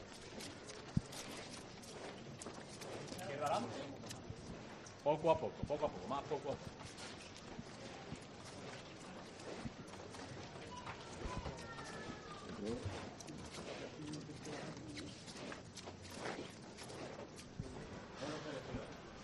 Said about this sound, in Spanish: La verdad que, bueno, impresiona el poder escuchar el racheo de los costaleros con este tipo de hermandades silentes, que podemos disfrutar, bueno, de otros sonidos, de otro momento, de otro encuentro,